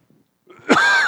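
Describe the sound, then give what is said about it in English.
A harsh cough bursts out after a brief low rumble, then trails into a sustained, strained wheezy rasp, with no talking around it. “You know, the cough drop might not help.”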